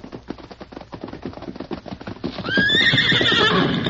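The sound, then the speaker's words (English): The horse Scout's hooves clop in a quick, steady rhythm for a couple of seconds, then a loud, shrill whinny rises over them, wavering and trailing downward as the hoofbeats continue. “Now, ho, Scout, ho, feller. Me get rope over saddle horn.”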